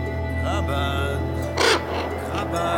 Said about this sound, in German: Elf Raben saßen auf einer Stange und sahen mich an.